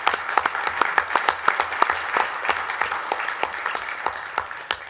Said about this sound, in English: And so I would, first of all, to see, if we can offer them a round of applause for their work.